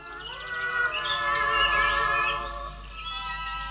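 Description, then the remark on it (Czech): Birds sing in a forest in the afternoon, a steady chorus of overlapping whistles and chirps that swells in the middle and then eases, clear, with no voices. “Ptáci zpívali.”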